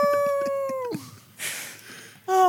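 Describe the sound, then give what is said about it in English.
A loud, sustained wolf-like howl that holds steady, then slides downward and fades, with some breathy noise before a second howl starts up strongly at the end. “We are now wolves.”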